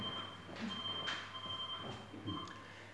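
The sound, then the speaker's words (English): A thin, high electronic beep holds steadily through the moment during a church sermon, faint against a murmuring background with soft clatter and shuffling. “Somebody's beeping.”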